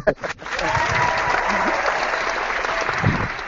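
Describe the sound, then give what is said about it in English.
An audience breaks into steady, dense applause for the comic book Book and World number one after a few sharp opening claps, the crackling clapping holding at a strong, even level with faint crowd murmur beneath. “Applause one more time.”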